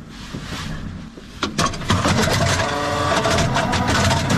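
Heavy tank engines rumble steadily, with a quieter stretch at first, then a sharp clank and a surge to a louder, sustained mechanical roar. No voices are heard. Tank crews near Bakhmut are preparing their vehicles for battle.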